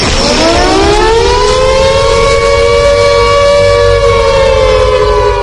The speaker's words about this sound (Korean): 또 한 번의 사이렌 소리가 공습이 끝났음을 알렸다.